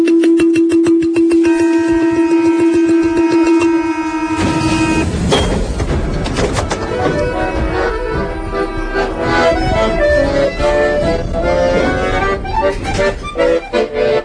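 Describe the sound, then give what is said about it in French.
A steady electronic-sounding tone holds for a few seconds, then a balafon breaks in with dense, bright struck wooden notes, rattling out a busy, repeating melody that echoes a metro door-closing chime. “Et je me demandais, est-ce que vous pouvez me faire, avec un de ces balafons, juste la note, vous savez, des portes du métro qui se ferment?”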